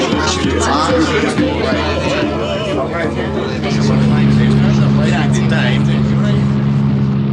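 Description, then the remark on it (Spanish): Dense crowd chatter and street bustle in the narrow lanes of central Calcutta, with a steady car engine hum that grows louder midway as the car winds through the crowds of people wandering the streets. “El auto serpentea entre las estrechas callejuelas del centro de Calcuta. La gente deambula por las calles en un continuo andar que semeja a un gigantesco hormiguero humano.”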